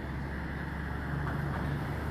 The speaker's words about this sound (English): Send in some more loud cars. Yep. A little louder. Yeah. Send in that loud truck.